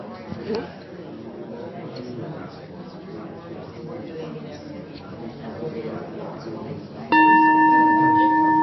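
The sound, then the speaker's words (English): A single bell rings out loudly near the end, rung to signal the end of an 8-minute exercise, its clear ringing tone sustaining and hanging in the air after a stretch of many people chattering in the background. “I'll ring the bell after 8 minutes, and then we'll take a moment to just to be quiet and regroup, and then I'll ring a bell, and then you can switch.”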